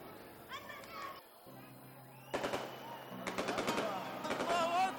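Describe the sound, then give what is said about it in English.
Rapid bursts of sharp firecracker pops crackle in quick clusters, loud, over a school after prayers, while children's voices and crowd chatter carry underneath throughout. “After finishing the prayers, sounds of firecrackers and takbir were heard over the school.”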